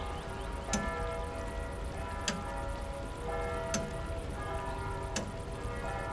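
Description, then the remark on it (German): A clock ticks slowly and steadily, four distinct ticks about a second and a half apart, set against a constant soft hiss and hum in the background with no talking. “Konzentrieren Sie sich nur auf das Ticken der Uhr.”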